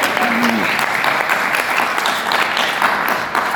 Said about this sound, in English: another round of applause for this man, by the way.